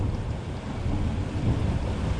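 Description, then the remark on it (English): Heavy rain pours down in a steady, dense roar with a deep rumbling low end, water running down the road, loud and continuous throughout, with no voices. “Look at all that rain going down the road.”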